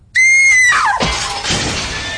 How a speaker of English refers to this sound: The window implodes.